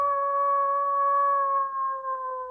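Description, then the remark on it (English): A wolf (Canis lupus) howling: one long, steady, mid-pitched note held for a couple of seconds, sliding slightly lower toward the end, loud and clear with no other voices. “Over the millennia, selective breeding turned that howl into this.”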